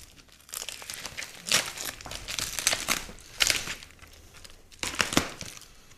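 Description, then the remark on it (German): Paper crinkles and rustles as a gift is unwrapped, with bursts of crackling and a couple of sharper tearing rips over about six seconds, without any voices. “Und würde mich auch freuen, wenn du es direkt auspackst.”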